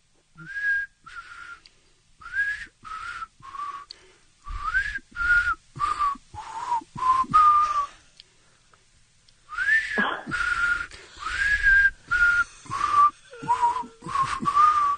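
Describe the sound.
A man whistles a pop song's melody for a caller to guess in a radio game, the notes breathy and airy with lots of hiss, in short phrases broken by a brief pause midway. No one talks.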